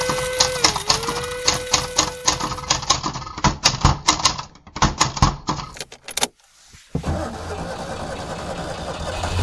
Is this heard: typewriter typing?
yes